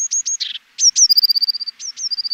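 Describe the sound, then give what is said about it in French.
Eurasian blue tit song: thin, high-pitched introductory notes followed by a rapid, even trill of repeated high notes, sung twice in quick succession, clear and alone with no voices. “Et puis dans votre jardin, vous aurez sûrement aussi la possibilité d'entendre la mésange bleue.”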